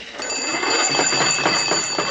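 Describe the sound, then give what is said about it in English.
A telephone rings with a continuous, rapid metallic trill, bright and high-pitched, holding steady and fairly loud for about two seconds with no voices over it. “Yeah, I hear it ringing.”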